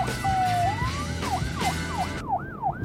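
emergency vehicle siren

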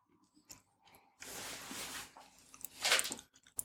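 chewing a crunchy snack

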